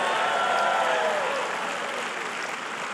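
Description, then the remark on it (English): A crowd claps steadily in a dense, continuous wash of applause, with faint cheering and voices mixed in, holding loud and even for the whole stretch before easing slightly toward the end. “Come on, clap today if you're not done learning about what the Bible has.”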